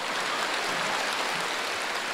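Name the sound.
applause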